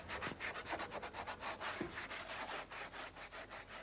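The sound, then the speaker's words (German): Steady back-and-forth rasping of sandpaper on a wooden door as workers renovate the large event hall of a youth centre in Kreuzberg. It is a continuous rhythmic scrubbing with regular strokes of fairly even loudness and no voices. “Seit mehreren Wochen renovieren hier drei ehemalige Sozialhilfeempfänger den großen Veranstaltungssaal, schleifen Türen, streichen Wände, erneuern Fußbodenleisten.”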